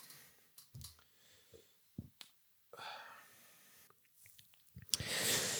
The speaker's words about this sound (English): Let me just take a little sip here.